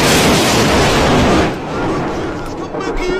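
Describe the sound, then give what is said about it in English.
A lightning strike hits with a loud, harsh crackling blast that fills the first second and a half, then drops to a lower rumbling wash as a voice starts talking. “Oh my god, baby, the bloody lightning bolt just missed you!”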